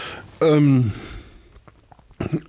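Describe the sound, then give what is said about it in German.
A single loud burp lasting about half a second, its pitch gliding downward, followed by quiet, faint clicks and a brief murmur. “Entschuldigung, ich muss aufstoßen.”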